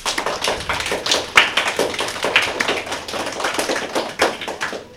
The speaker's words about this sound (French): Applaudissez-les !